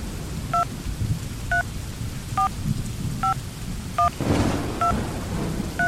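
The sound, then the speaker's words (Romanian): Seven dual-tone keypad beeps as someone dials their mother's phone number, spaced in a steady rhythm, over a constant wash of heavy rain with a low rumble swelling partway through. “Nu, mai bine o sun pe mama.”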